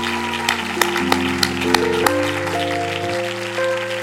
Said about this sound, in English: Let's give God a hand clap of praise right now.